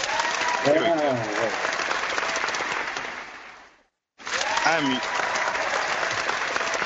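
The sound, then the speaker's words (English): Loud, dense applause sound effect with voices mixed in, played late because of lag. It fades out, breaks off into a brief silence, then abruptly starts again at full volume and continues to the end. “Hey, where's the applause?”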